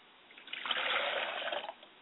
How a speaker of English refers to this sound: We pour libations to the north and we say, Ashe. We pour libations to the south and we say, Ashe.